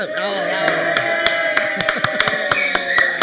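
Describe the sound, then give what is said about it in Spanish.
Light, scattered applause: a dozen or so sharp, irregular handclaps from a few people, heard over a steady sustained tonal background. “Hoy no hubo tanta ovación.”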